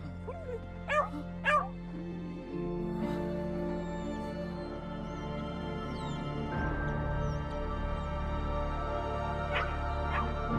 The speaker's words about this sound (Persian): پس تو اینجایی هاپو، فکر کردم که گم شدی. بیا بایسا بینم، این سگ پیرته. نه این سگ منه، پدر و مادرم برام خریدنش ولی همش فرار میکنه.